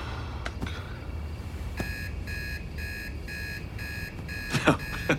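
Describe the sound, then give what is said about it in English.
An alarm clock beeps in a steady rapid pattern of short, bright tones, about seven bursts evenly spaced, over a low background rumble with a couple of faint clicks and rustles. “God, the alarm was about to go off.”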